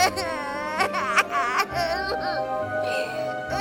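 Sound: child crying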